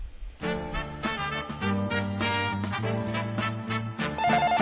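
A phone rings with a steady electronic melody, a run of sustained tonal notes stepping through a simple tune, playing continuously at a moderate level with no talking.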